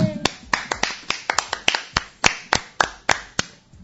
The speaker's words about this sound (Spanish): Aplauso más triste